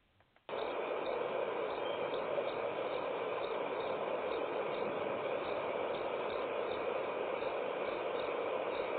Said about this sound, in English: We heard more crickets. We heard more crickets.